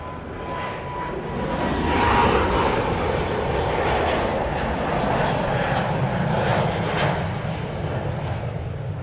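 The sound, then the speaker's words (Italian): A loud airplane taking off roars overhead, passing over a handful of houses between the airport fence and the sea; its engine noise swells to a peak early on and then holds as a broad, steady rumble and whine before easing slightly as it passes. “Appena decollano, gli aerei passano proprio sopra la manciata di case strette tra la chilometrica recinzione dell'aeroporto e il mare, il paese di mezzo.”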